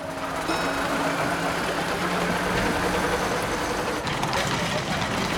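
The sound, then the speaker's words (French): The engine of a large open-top double-decker bus rumbles steadily, a low idling drone with faint mechanical rattles and a few tonal whines, joined by indistinct background voices, as a passenger climbs the stairs to the open upper deck in a busy city. “Elle grimpe les escaliers d'un bus à Impérial pour s'installer à l'étage décapoté.”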